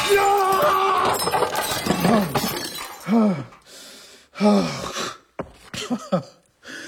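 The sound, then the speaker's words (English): A man smashes up weeks' worth of work: loud crashing and shattering of glass and equipment fills the first few seconds with ringing debris, followed by several short, strained vocal bursts between quieter pauses. “See, I've smashed up weeks' worth of work, and that's nothing.”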